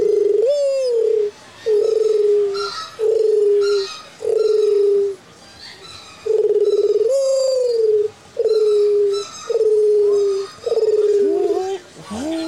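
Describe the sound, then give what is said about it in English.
A person imitates a mourning dove with a series of low, hollow hooting coos, each held steady then sliding down, repeated about eight times in a slow, even rhythm. “Now, if you're doing that, you can do a mourning dove.”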